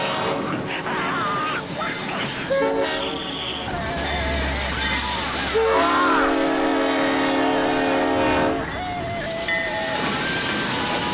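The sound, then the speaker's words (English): A train rumbles past, its horn sounding two long, loud chord-like blasts, the second held for a few seconds before fading under steady rail noise. “Oh, the train's back.”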